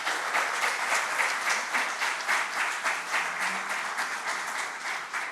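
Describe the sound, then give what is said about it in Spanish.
A crowd at an awards ceremony applauds the honored artists, clapping steadily in sustained applause, a dense wash of many hands at an even, fairly loud level for several seconds with no voices over it. “Felicidades a nuestros artistas homenajeados y un aplauso para todos, por favor.”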